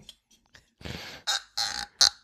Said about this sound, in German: Und da höre ich schon einen Korken, der nicht raus will, aber jetzt habe ich es geschafft.